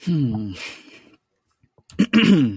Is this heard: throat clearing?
yes